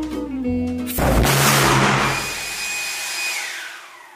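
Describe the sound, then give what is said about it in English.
A pulse jet engine, run with the gas opened quicker, bursts into a loud, harsh, buzzing roar after a brief stretch of low humming tones, holding steady with a thin high whistle riding on top until the end. “Including just opening the gas quicker, and threatening to harm the pulse jet's children.”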